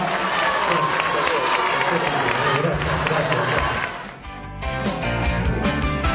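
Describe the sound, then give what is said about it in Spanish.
An audience applauds Bordaberry at Vázquez's request, in a steady, dense wash of clapping mixed with crowd voices; it dips briefly near the end, then picks back up with voices more prominent. “Pido un aplauso.”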